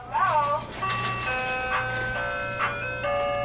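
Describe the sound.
A tinny ice cream truck jingle plays its bright, repetitive melody over a steady low engine rumble, with brief talk layered on top near the start.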